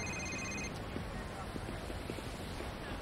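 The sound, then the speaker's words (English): A mobile phone's electronic ringtone chirps briefly at the start, bright and high, as a call comes in from Larry, then cuts off, leaving a steady wash of outdoor background noise. “Joel looks at his phone. It's Larry.”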